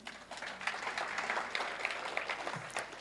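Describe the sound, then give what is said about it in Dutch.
A room full of people applauds steadily, a dense, continuous patter of many hands clapping at moderate volume for a few seconds with no one speaking. “Mag ik u applaus”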